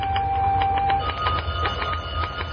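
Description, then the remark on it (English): A telephone bell rings steadily in an area supervisor's office on an August morning, a rapid rattling trill, moderately loud over a low background hum, with no one speaking. “I'm almost afraid to answer that doggone phone this time.”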